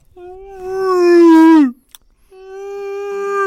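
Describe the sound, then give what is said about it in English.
A voice imitates a whale call: two long, loud, wailing moans, the first rising then sliding down, a short gap, then a second steadier drawn-out tone. “the sound of a dolphin whales.”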